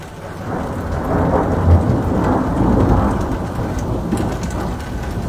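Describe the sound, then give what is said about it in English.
A thunderstorm with steady, heavy rain and a deep rolling rumble of thunder that swells in the middle and slowly fades, with no voices. “Thunderstorms Thursday brought baseball-sized hail and at least one tornado, which touched down in Highlands Ranch south of Denver.”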